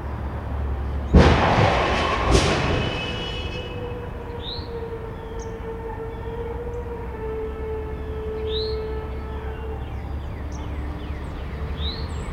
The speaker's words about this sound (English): Here are just a few examples of some of the not-quite-expected sounds I've recorded over the years, including this car crash from March 30th, 2016, recorded at my parents' house.